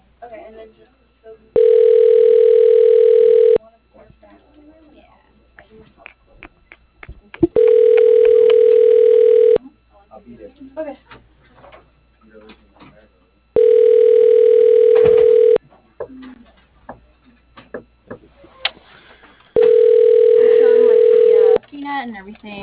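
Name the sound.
telephone ringing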